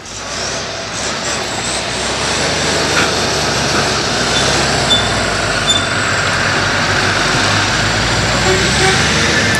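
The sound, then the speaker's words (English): A steady, loud roar of cars and a tractor passing by, a continuous engine and tyre rumble that holds for the whole stretch without a break. “So it's just having loads of cars and tractors passing.”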